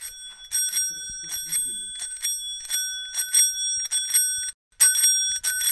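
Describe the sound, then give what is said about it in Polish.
The bell of an old bicycle, about 100 years old, rings repeatedly in quick double and triple strikes, bright and metallic with a lingering shimmer, loud, with only a brief pause near the end. The bell has an engraved nickel dome. “ale dzwonek, proszę bardzo, dzwonek działa.”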